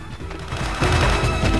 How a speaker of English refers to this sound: A gunman throws a hand grenade at Hamid's car, which blows up in a fiery explosion.